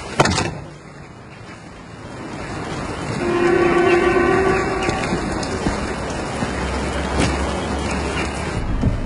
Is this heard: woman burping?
no